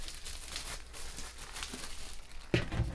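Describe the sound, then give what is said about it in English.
Paper wrapping from the top and bottom of a frozen pizza being crumpled, a steady crinkling rustle with bursts of louder crackling, swelling sharply near the end as the paper is balled up for the trash. No one speaks. “This pizza has paper on top of it and paper on the bottom. Wow, they really put some paper around this thing.”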